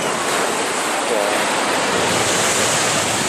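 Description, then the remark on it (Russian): Sea surf rolls onto a beach in a steady, broad, loud roar, with waves washing in continuously and no clear breaks between them. “Но тут на пляже то ли шторм какой был, то ли чего, даже я не знаю.”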